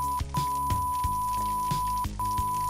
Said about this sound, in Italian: Uno sfrigolio di sottofondo mi mette in allarme. Forse ho perduto la connessione. È uno strano rumore. C'è uno sfrigolio e un fischio sottile. Sfrigolio e fischio sottile.